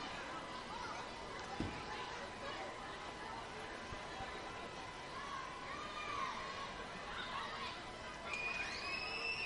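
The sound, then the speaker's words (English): High-pitched shrieks and squeals from children in the stands at a baseball game, sitting right under the broadcast booth two stories below, rise and fall over a steady, dense crowd murmur, with a few sharper cries breaking through near the end. “Probably hear a lot of high-pitched screaming. The kiddos down below, they sit right up under the booth, two stories down in the shade.”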